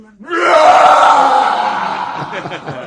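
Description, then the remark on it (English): A voice imitates a roar: one loud, sustained, raspy growl that swells quickly and holds for over two seconds, gradually trailing off with a rough, breathy edge. “And then a roaring came.”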